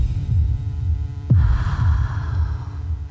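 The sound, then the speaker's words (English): A deep, ominous heartbeat sound effect from the film Water for Elephants thuds in a steady low rhythm, with a sudden swelling whoosh partway through that lingers as a faint hiss over the continuing beats. “Well, we leave it on a very ominous tone there. That heartbeat.”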